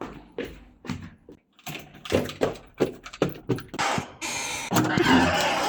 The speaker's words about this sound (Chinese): 谁在开门啊？